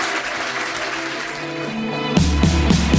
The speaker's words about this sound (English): And let's give a final big round of applause to Kara Swisher and Ezra Klein.